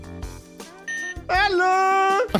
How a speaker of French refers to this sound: Vous avez des buzzers personnalisés, je vais tout de suite les paramétrer.